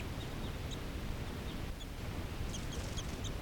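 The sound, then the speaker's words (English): Crossbills sitting in trees calling: short, high chip notes scattered across steady background hiss, faint, with a quicker cluster of calls near the end. “We have some crossbills sitting right here in the trees.”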